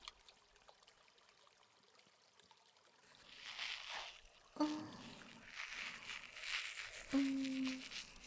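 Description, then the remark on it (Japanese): Wet squishing and rubbing of a generous soap lather being worked into wetted hair during hair washing, starting after a few quiet seconds and continuing steadily, with a couple of brief squeaky notes. “たっぷりと石鹸を泡立てて、それを紙に。”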